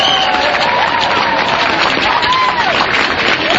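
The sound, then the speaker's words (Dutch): Steady applause from a large audience welcoming the next speaker, an Afghan refugee, dense and continuous, with a few faint voices and cheers mixed in beneath the clapping. “Geef hem een applaus.”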